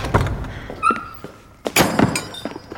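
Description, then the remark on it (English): Wooden shutters being opened: a few hollow knocks, a short creaking squeak, then a louder clattering bang as they swing open. No voices. “Get the shutters open.”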